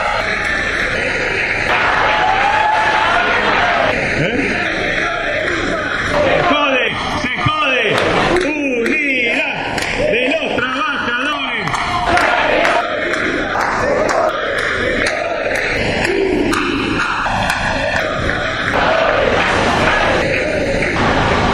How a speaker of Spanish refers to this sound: Pero bueno, el paro va a ser, así que el aplauso está bien. Muy bien.